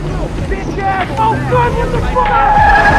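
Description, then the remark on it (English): An SUV's tires squeal in high, wavering tones as it swerves and brakes hard to a stop, over a loud rushing engine and wind roar that stays strong throughout. “the SUV swerves to a stop behind him.”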